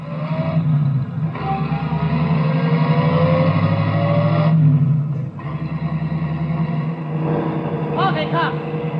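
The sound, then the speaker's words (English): A taxi cab engine rumbles steadily and revs up as the cab pulls away and accelerates to follow a sailor on a motorcycle, a loud, continuous motor drone with rising whines near the end. “Cabby, follow that sailor on the motorcycle.”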